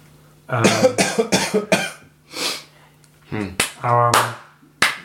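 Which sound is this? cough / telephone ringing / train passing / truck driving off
cough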